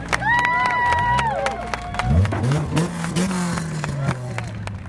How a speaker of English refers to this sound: Still, most of the battered competitors, keeping to the never-say-die theme, managed to return for the final laps and exit to the applause of pit row.